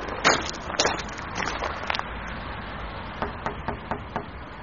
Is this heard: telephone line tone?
no